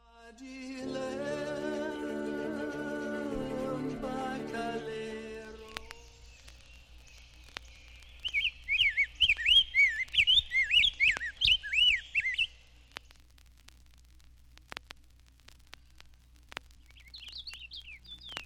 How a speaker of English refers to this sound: The purple finch ranges south with the evergreens, but it is more common in the north woods, its song a continuous warble.